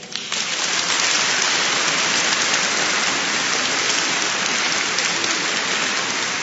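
Warm audience applause, greeting someone in Szczyrk who led the rosary prayer, starts almost at once and holds steady as a dense, even wash of many hands clapping, with no voices over it for the whole stretch.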